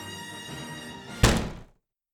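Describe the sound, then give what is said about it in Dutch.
The parrot Piraat flies into a window of the White House: a steady tonal hum, then one sudden heavy thunk that rings briefly and fades into silence. “Hij is tegen het raam aangevlogen.”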